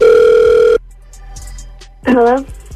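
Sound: phone call ringing out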